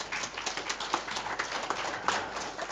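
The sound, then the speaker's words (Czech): Steady audience applause after a lecture: many hands clapping in a dense, continuous patter at moderate loudness, with no voices over it. “Nicméně bych poděkoval a přednáška si určitě zaslouží potlesk.”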